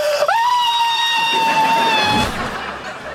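A woman lets out a loud, sustained high-pitched scream of pain during tattoo removal, rising sharply then holding steady for about two seconds before breaking off into noisy background sound.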